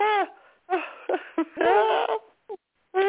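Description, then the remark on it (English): Several goats bleat in quick succession, fairly loud, with wavering, quavering calls separated by short pauses. “it's tomorrow's the day that the goats get picked up at 9 a.m., the goats and chickens.”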